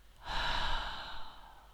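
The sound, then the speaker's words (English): A deep, slow breath drawn in during a guided relaxation breathing exercise, airy and breathy, swelling quickly then trailing off gradually into quiet, with no talking. “And one last time, breathe in. And release any tension.”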